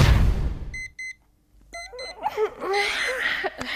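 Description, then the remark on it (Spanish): An electronic alarm clock goes off at half past seven, beeping in quick pairs of short, high-pitched tones after a brief burst of noise, followed by a chattering, voice-like sound. “Siete y media. Suena el despertador. Me levanto de la cama.”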